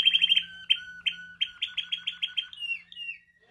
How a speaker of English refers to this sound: And if your bird's too loud, well, please. You just need to breed some quieter birds.